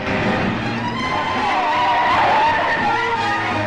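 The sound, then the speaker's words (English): Tires screech and skid loudly as oncoming cars swerve out of the way of an ambulance crossing the central line of the road, a wavering high squeal riding over roaring engines and road noise, continuous for a few seconds. “Oncoming cars swerve out of their way as they cross the central line of the road.”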